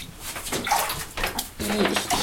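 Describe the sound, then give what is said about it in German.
Water runs into a bathtub with a steady, splashing rush that swells and dips in bursts, fairly loud, with a few faint vocal sounds mixed in. “Hat sich das Wasser einfach nur verteilt oder läuft dann noch mehr raus?”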